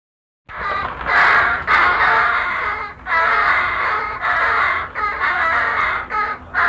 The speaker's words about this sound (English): Young common crows immature is approximately 3.5 weeks old, Bladensburg melon. Recordings made 31 May 1970 at 4448 Street at approximately 10 a.m. The birds are now begging, gaping for a locust or a cicada